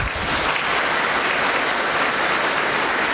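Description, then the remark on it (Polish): Steady, dense applause from an audience welcoming a priest, many hands clapping at once in a continuous crackling wash that holds an even loudness throughout, with no talking over it. “Brawa.”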